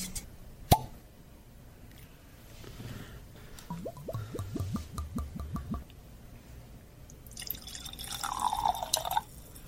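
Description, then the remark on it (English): A heavy pour of 14-year-old whisky, extra matured in rum casks, glugs from a bottle into a glass in a quick run of rhythmic gurgling plops, preceded by a sharp click and followed by a brief higher-pitched trickle as the pour finishes. “Nice heavy pour there.”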